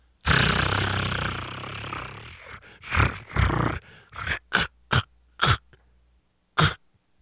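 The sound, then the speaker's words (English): A prize wheel spins with a loud, steady rushing whir, then slows into a series of separate rattling clacks that come further and further apart until it stops. It is the second spin of a drawing of names for tickets to the Sexy Liberal Show. “All right, spin number two. Here we go.”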